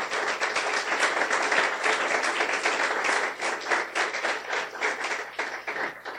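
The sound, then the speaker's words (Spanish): An audience applauds the Lord steadily for about six seconds, a dense wash of many hands clapping at even loudness, fading slightly near the end with no voices over it. “Ahora, dele un aplauso al Señor.”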